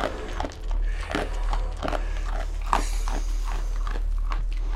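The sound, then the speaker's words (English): A 9-month-old bear cub eats apple bits and dog kibble from a man's hand, with a run of irregular crunching bites and wet smacking chews over a steady low background hum. “is the sound of the bear cub eating out of his hand.”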